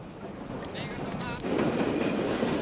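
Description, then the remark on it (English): A train rattles steadily along the tracks cross country, a dense continuous clatter with brief metallic squeals, growing louder and heavier partway through. “The train rattles on cross country.”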